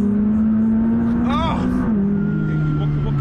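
car engine accelerating

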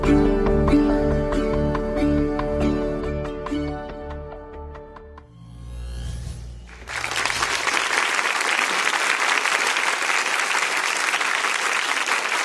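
applause

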